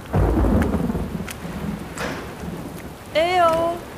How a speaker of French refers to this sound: Elles ne sont certainement pas au courant de l'arrivée de cette tempête, et à découvert, elles n'ont que peu de chances de ne pas être emportées.